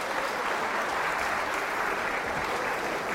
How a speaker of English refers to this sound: Let's give my beautiful chicken, Winnie, a clap.